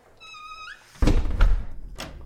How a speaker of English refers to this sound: Should I close the door behind me? All right.